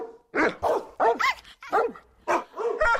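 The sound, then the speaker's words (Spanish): A dog barks repeatedly, about six sharp barks in an uneven rhythm with brief pauses between them, loud and clear with no talking over it. “esfuerzo debe continuar para seguir protegiendo a esos animales que tanto nos cuidan a nosotros, ¿no?”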